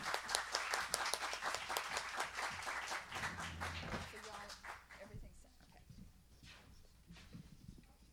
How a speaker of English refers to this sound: And I want you to give them a real hearty welcome, because they're going to give us our Sunday morning gospel, which will get us started right for the day, for this day at the Folk Festival. This, give them a warm welcome of applause.